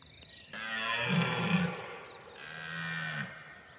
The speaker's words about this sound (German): Ist das der Platzhirsch? Das war in dem Fall der Platzhirsch, genau. Aber ich muss noch dazu sagen, dass die zwei Aufnahmen nicht zusammen entstanden sind. Ne? Also das war ja zur Brunft, also Ende September.